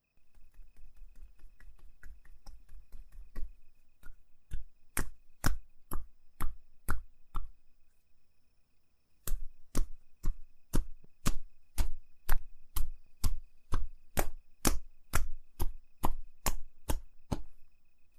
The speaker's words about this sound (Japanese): だいぶほぐれてきました。それじゃあ仕上げにトントンしていきますね。